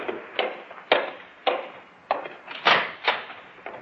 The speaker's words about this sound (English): And then one night, when I was nearly through with my work, there was a knock on the door. Well, who's that?